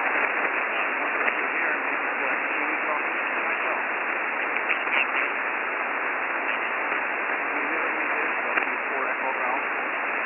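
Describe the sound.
Steady, hissing radio static fills the whole stretch, with a faint, barely intelligible ham radio voice buried underneath, sounding thin and band-limited like a weak transmission under tough band conditions.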